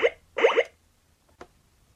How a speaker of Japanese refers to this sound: 通知音2